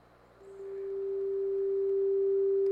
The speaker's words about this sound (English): Here's a simple G played with a sine wave tone.